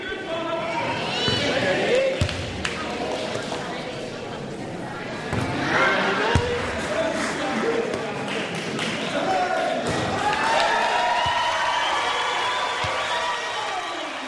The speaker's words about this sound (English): Then as he shoots, the audience joins in the countdown.